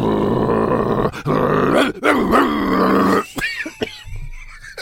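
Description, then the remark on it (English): A man growls and grunts like a dog, loud, in long throaty rumbles broken by short sharp bursts, then trailing into snarling, panting huffs. “Well, at that moment, Bielsa begins to growl and grunt.”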